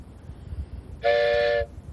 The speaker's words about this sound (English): Here comes a train. Uh-oh. He's trying to run over me.